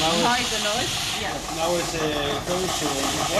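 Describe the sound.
A robotic milking machine on a dairy farm runs with a steady, loud pneumatic hiss and mechanical hum, faint tonal whirring and indistinct voices underneath. Cows come freely to the stall, and the laser- and camera-equipped robot cleans the udder, draws the milk and disinfects the teat.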